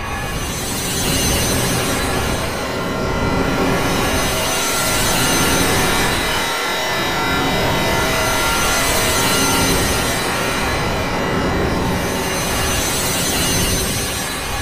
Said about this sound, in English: So why don't you set yourselves down on the edge of your seats as I program the randomizer and once again fire up the old Fab Radio International time engines